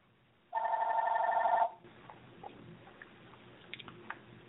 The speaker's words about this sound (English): And as we start, the phone is ringing.